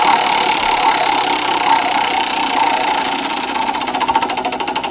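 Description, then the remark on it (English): A prize wheel used to pick the leading story spins with a loud, dense whirring rattle, its rapid clicks becoming more distinct and evenly spaced as it slows toward the end. No voices are heard. “And let's give another turn on the leading story spinning wheel.”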